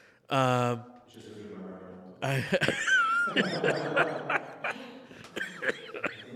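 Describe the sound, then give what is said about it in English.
A loud fit of repeated harsh coughs, a voiced strained sound at first, then a long run of rapid, raspy bursts mixed with breathy, laugh-like sputters. “There's the coughing fit happening.”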